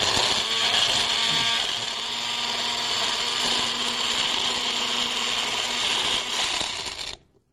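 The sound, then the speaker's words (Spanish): An electric blender blending ginger, apple and melon into a juice whirs loudly and steadily for about seven seconds, a dense grinding motor roar, then cuts off abruptly. No voices are heard. “Entonces hay que licuar bien licuadito para que le quede como un juguito, ¿verdad?”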